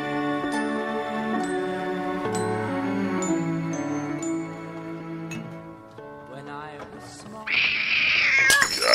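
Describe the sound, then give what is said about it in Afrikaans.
A cat meows in long, drawn-out, wavering cries that run almost continuously, fairly loud, ending in a harsher, noisier burst near the end. “Man, kat, onder my voet uit.”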